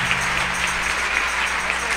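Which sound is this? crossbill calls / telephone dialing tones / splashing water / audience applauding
audience applauding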